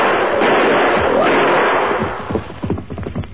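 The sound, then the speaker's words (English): A loud, rough roaring burst of noise gives way to a quick series of sharp, cracking gunshots fired in rapid succession at a huge charging grizzly bear, with a voice briefly mixed in. “Two arrows, four bullets in him.”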